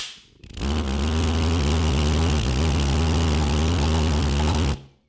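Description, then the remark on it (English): A glass jar pulse jet, made from a Moroccan-style meatball sauce jar with the label removed and a 10 mm hole drilled in the lid, running on alcohol, roars with a loud, steady, buzzing drone for about four seconds, starting suddenly and cutting off abruptly, with no talking. “This is what is called the Gem Jar Pulse Jet, and it uses the same effect as before.”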